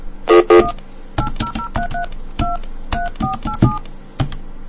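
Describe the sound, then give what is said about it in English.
A phone number is punched in on a telephone keypad, a rapid, uneven run of about a dozen short, clear dual-tone beeps with faint button clicks, fairly loud, with no voices. “Oh, let's call this one. This is a good number.”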